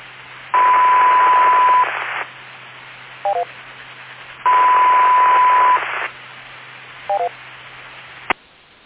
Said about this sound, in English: There's a lot of noise coming through on the repeater. Definitely opened something though, because that time there was actually static coming through.